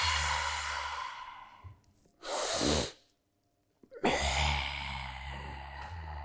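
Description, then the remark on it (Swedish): Long, deep breaths drawn and released through an open mouth by people breathing together, fairly loud: a drawn-out exhale, a short sharp breath, a brief silence, then another long airy breath. “Okej, skulle vi kunna bara tillsammans bara ta några långa djupa andetag?”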